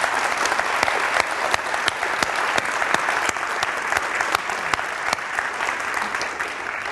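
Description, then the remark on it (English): Steady audience applause fills the room as a panel member is introduced, many hands clapping densely and evenly for several seconds, consistent in loudness throughout. “He's been HIV positive for 10 years, and since then, he deserves the applause.”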